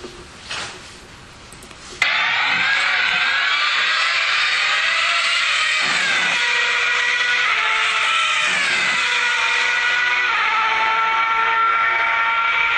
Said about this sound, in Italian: E adesso vi faccio sentire questo, che invece sono le macchine che arrivano e se ne vanno quando voi siete fermi sulla pista, non sulla macchina ma fuori dalla macchina.